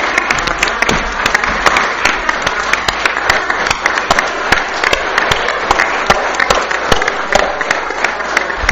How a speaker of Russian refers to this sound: Уважаемые коллеги, давайте аплодисментами поддержим итоги референдума тех ребят, которые сегодня защищают нашу родину.